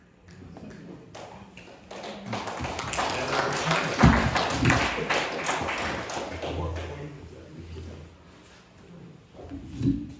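An audience breaks into a burst of clapping that swells to a dense patter in the middle, then thins out and fades, with a few scattered claps and murmurs at the edges.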